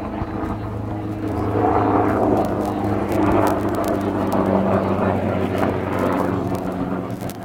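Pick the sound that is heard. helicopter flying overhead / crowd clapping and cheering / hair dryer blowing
helicopter flying overhead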